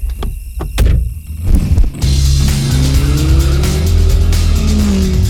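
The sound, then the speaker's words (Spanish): A few clicks and thumps, then a taxi's engine roars up and drones loudly as it drives off, a rising whine of squealing tires running beneath it. No voices. “Aquí estamos, con el taxi 2000.”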